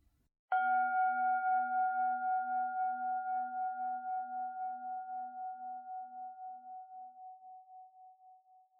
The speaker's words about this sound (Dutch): En voel dan nog even na tot de bel gaat.